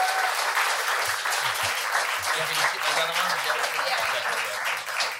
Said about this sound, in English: We want to hear from you, but huge round of applause, please. Max Chandler-Mather, everybody, come on.